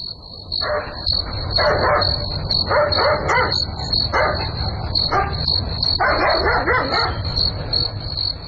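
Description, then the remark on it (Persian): A dog barks repeatedly in uneven bursts, some in quick doubled clusters, over a constant high-pitched chorus of crickets and insects on a quiet night. No one speaks. “معلوم نمیشه، نمیفهم که سگ چرا میجفه، حتما کرام گپ خو است.”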